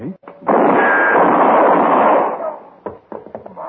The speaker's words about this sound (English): Dirty pig, you shoot a hole in my hand.